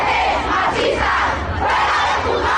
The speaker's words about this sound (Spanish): Aquí se han podido escuchar consignas como "La manada somos nosotras", además de algunos gritos dirigidos a los jueces.